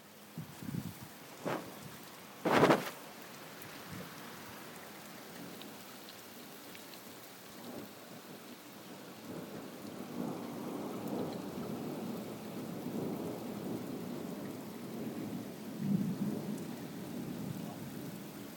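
Steady rain pours throughout while a sharp thunder crack bursts early on, followed by a long, rolling rumble of thunder that swells and lingers under the downpour.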